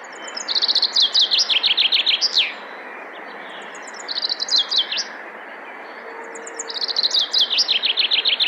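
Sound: chaffinch song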